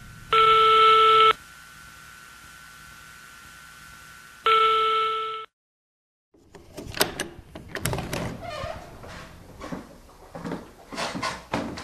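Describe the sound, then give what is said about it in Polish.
A telephone rings twice during a phone call, each electronic burst about a second long with a pause between, then a brief silence gives way to a jumble of clattering, shuffling noises. “W końcu ona zazłoniła po kuzyna.”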